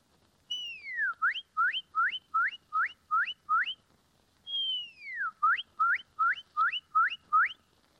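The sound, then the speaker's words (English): A woman whistles an imitation of a red bird (cardinal) song: a long downward-sliding whistle followed by a quick series of upswept notes, repeated twice, clear with no talking. “The red bird.”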